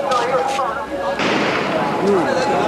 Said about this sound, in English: A huge volley of shots just as I left the front line caused panic.